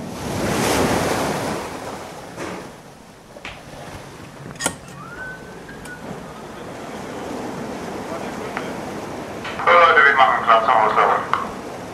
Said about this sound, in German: Es ist 8 Uhr morgens. Ein leichter Wind legt den Greifswalder Bodden in kräuselige Wellen.